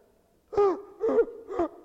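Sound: voice imitating gasping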